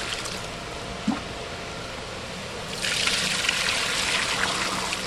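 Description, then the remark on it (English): Water trickles steadily, then swells into a louder, fuller pour about halfway through, a splashing rush into a bucket of stirred fish eggs and milt, added so the water activates the sperm for fertilization. A brief low knock sounds early on. “See, stirring them up, stirring just to make sure that it's nice and mixed, and then adds water.”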